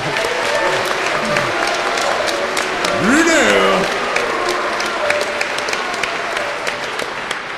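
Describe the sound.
An audience claps steadily for several seconds for a speaker after a talk, a dense crackle of many hands, while someone shouts a single word partway through.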